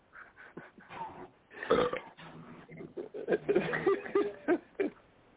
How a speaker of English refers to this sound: That's all you can do is belch. Man, look, man. You always come on so well belching, man. Don't nobody feel like smelling that gorilla breath already today.